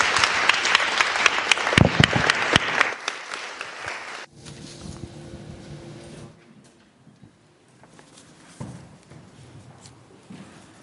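A round of applause: dense, crackling clapping from a crowd for about four seconds, then it fades into quieter scattered claps and shuffling noises.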